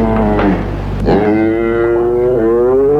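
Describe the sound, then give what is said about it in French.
Cows low in a stable, with a long, drawn-out moo that swells and holds, followed by another overlapping call, fairly loud over a low background rumble. “Plus tard, on l'a fait déménager de sa cellule pour la mettre au-dessus de l'étable près des vaches.”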